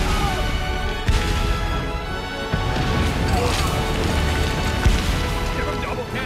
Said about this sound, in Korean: 명령에 따라 남부 연합군 1만 5천여 명이 게티즈버그로 향하는 벌판을 가로질러 진군합니다. 그러자 북군 진영에서 대포가 불을 뿜습니다.